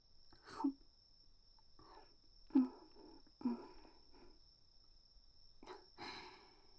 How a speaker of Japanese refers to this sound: 鈴虫の音に耳を澄ませながらお団子を頬張る。うん、いい風物詩だわ。好きよ。